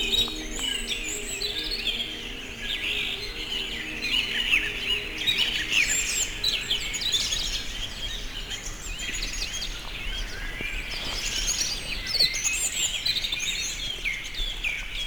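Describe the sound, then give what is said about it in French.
A dense chorus of many birds singing at once at sunrise on the mountain slopes of Cagia, overlapping chirps and trills filling the air continuously at moderate loudness, with no voices present. “Les oiseaux, une myriade d'oiseaux chantent ses gousilles.”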